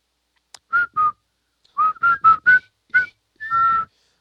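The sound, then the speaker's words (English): A whistled melody, the tune played at the dog races in Tijuana when the dogs were brought out: short, clear tonal notes, two near the start, then a quicker run of four, ending on a longer held note, with no talking. “Yep, they would do that whistle.”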